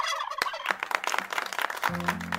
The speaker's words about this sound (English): They're known for the gobbling sound they make, but did you know only males gobble?